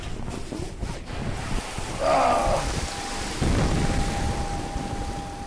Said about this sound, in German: Das Wasser prasselt von allen Seiten mit Wucht auf mich ein. Ich habe Angst um mein Aufnahmegerät. Das kann nicht gut gehen. Nach 2-3 Minuten ist der Spuk vorbei.